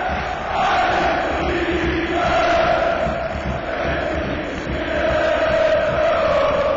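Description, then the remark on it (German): A big stadium crowd of fans at a Borussia Dortmund versus Schalke football match roars and cheers continuously after a successful attacking move, a dense, loud wall of voices with chanting swells rising and falling throughout. “Und schon mit der ersten gelungenen Aktion ist das Publikum, sind unsere Fans wieder voll da.”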